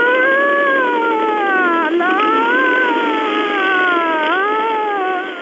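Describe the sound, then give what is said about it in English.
A man playing a cop imitates a police siren with his mouth, a continuous wailing tone that rises and falls in slow sweeps, loud, with no other talking. “This is Mouth Siren Cop saying so long, asshole.”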